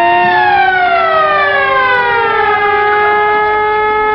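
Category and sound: vehicle, police car sirens approaching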